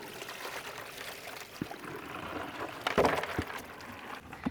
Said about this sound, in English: I'm going to get the bucket and I'm going to gently pour it into this big white tray so that we can have a better look at what we've collected in the river.